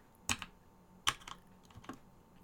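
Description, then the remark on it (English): Sharp, clacky keystrokes from a loud computer keyboard, coming in a few irregular bursts with short pauses between them, loud and crisp with no talking. “You guys make fun of me on Twitch. for my keyboard because it's so loud.”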